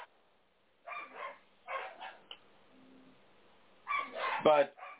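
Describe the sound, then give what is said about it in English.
Dogs fighting, with rough bursts of barking and snarling in three clusters separated by pauses, ending in a louder flurry with a sharp, high yelp. “like yeah, I know, it sounds like some dogs are fighting in the background.”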